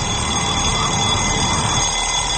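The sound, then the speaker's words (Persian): An alarm clock rings without pause, a steady, loud, metallic clatter with shrill high tones that holds an even level throughout. No one speaks. “یه صدای یه مقدار آزار دهنده ولی آشنا شما رو به خودتون میاره. صدای زنگ ساعته.”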